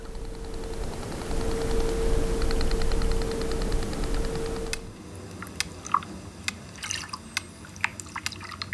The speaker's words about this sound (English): Compared to the small dolphin, this one is the biggest hunter, so it's very large click. This is a sperm whale doing clicks that are spaced of 1 second each.